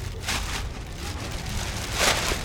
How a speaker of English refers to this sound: A light rain starts up again